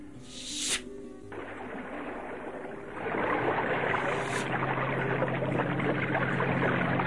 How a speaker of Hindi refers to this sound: अच्छा महाबली, मैं बाण चलाकर धरती से पानी प्रकट करती हूँ।